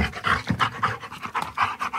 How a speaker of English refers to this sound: Nothing like panting.